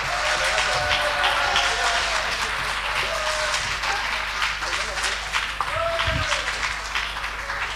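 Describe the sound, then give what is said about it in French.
Steady, dense applause from a crowd for the President of the Republic, many hands clapping at once in a continuous crackling wash that holds at a fairly loud level, with faint voices and a brief whistle-like tone mixed in. “Applaudissez-le!”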